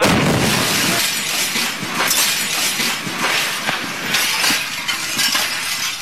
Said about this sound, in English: A powerful shockwave shattered windows. Last February, an asteroid did explode over a city, Chelyabinsk in Russia.